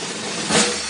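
A brief snare drum roll, a dense, hissing rattle of rapid strikes that swells a little louder just before it ends, with no voices.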